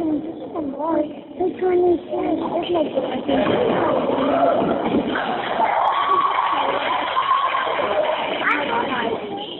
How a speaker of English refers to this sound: It sounds like it's a basketball game. Yeah, that's what I think. It sounds like a basketball game because you can hear a ball dribbling and you can actually hear sneakers squeaking. You can hear the sneaker squeaking.